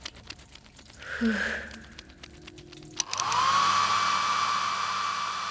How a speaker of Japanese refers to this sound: 終わったらドライヤー貸して。 もう終わりだからいいよ。